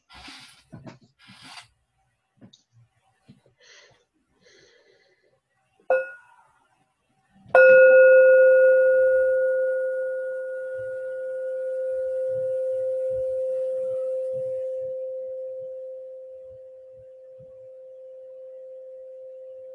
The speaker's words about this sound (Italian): Concludiamo con un suono di campana? Sì.